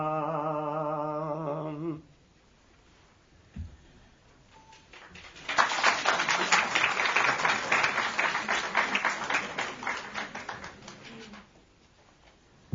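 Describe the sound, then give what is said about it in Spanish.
An audience bursts into applause, a dense crackle of many hands clapping for several seconds before it fades out. A brief sung or voiced tone comes just before it. “No me aplaudan.”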